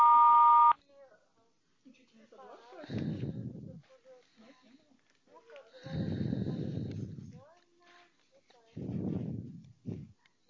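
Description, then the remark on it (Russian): An answering machine beep: one loud, steady electronic tone held for under a second, then quieter breathy, rustling bursts and faint muffled voice sounds. “Оставьте сообщение после звукового сигнала.”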